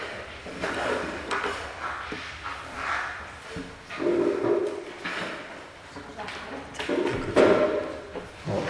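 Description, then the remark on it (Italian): A chair scrapes and thumps across the floor as it is dragged closer, a few short shuffling bursts, with people murmuring and audible reverberation. “Può avvicinare una sedia dietro così può appoggiare.”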